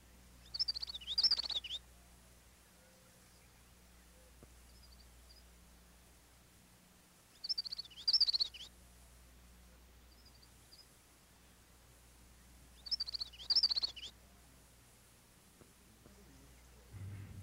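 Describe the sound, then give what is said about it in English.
A common yellowthroat, a warbler, sings its rollicking witchety-witchety song three times, each phrase a quick, bright burst separated by several seconds of quiet, with a faint low hum underneath. “The yellowthroat, also a warbler, sings its rollicking witchety-witchety song from marshy thickets and lake margins.”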